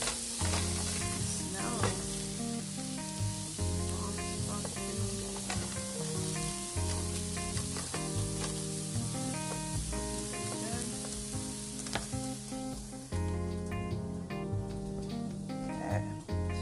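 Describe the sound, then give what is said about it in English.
Onions sizzle steadily in a hot pan, a dense, bright crackle running the whole time, with occasional scraping knocks as they're stirred. No one speaks. “Hear that sizzle?”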